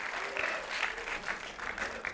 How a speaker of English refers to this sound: So circle that one. That's applause break on that one.